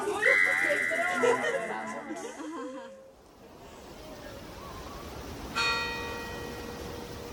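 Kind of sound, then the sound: signal or alarm, church bells ringing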